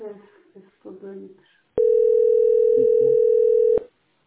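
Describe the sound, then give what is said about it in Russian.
A single loud, steady telephone ringing tone on a call, holding for about two seconds. Someone speaks briefly just before it starts, and faint voices carry on underneath the tone. “Вот этот телефон. Вот он.”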